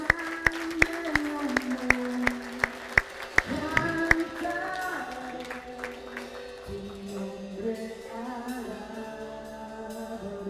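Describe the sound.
An audience applauds, starting with sharp, evenly spaced claps over sustained musical tones, then blending into a fuller wash of clapping, music and voices that stays moderately loud.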